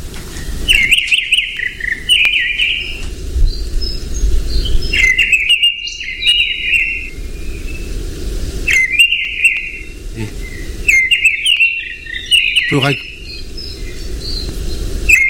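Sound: song thrush singing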